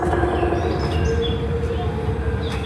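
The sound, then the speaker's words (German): Faint, scattered high bird chirps and tweets sit behind a steady, loud low rumbling noise that fills the whole stretch without pause, in a film scene set among trees. “Vögelgezwitscher ist im Hintergrund zu hören.”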